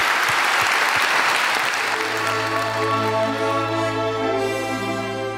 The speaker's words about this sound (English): Thank you so much for your contribution. Lots more ahead, but let's give you a grand round of applause.